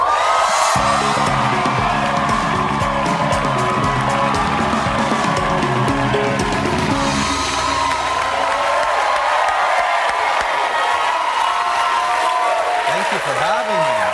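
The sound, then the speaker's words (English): A loud studio audience in Lakeland cheers and whoops without pause as a musician guest is welcomed onto a talk show, with applause and scattered yells blending into a dense, sustained roar. Band music plays underneath for the first several seconds. “Your crowd is really loud.”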